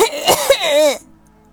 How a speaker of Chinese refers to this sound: 现在我动弹不得，还咳嗽，完全喘不上气来。